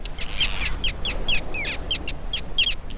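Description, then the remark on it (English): A flock of terns at the Weddell Sea in Antarctica, during the Antarctic summer in November, calls in a busy stream of sharp, high, scratchy cries, overlapping and repeating every fraction of a second above a low, steady rumble of wind or surf. “The terns that arrive here find a life of plenty.”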